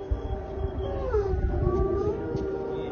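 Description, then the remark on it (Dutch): Several wolves at the zoo in Kharkiv, Ukraine, howl together in long, wavering tones that rise and fall, with the low steady drone of an air raid siren beneath them, and no one speaking. “Ja, je hoort hier wolven huilen in de dierentuin van Kharkiv tijdens het luchtalarm.”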